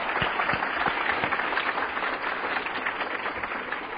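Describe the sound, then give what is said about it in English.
A crowd applauds steadily for the committee of the Atlanta Roundup on a Sunday night, a dense wash of many hands clapping at an even, sustained loudness with no voices breaking through. “But let's give them another round of applause here this Sunday night.”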